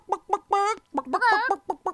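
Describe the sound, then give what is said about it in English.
A person imitates a chicken, giving a run of short clucks broken by two longer, drawn-out squawks, loud and alone with no other talking. “Yeah, that was a really good chicken.”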